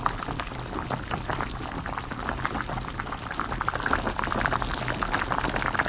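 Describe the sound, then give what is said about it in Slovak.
Water boils vigorously in a pot, a steady bubbling and popping that holds at an even level throughout, with no voices, as 100 grams of couscous or bulgur are cooked. “Na zachopienku varime 100 gramov kuskus abo bulgur.”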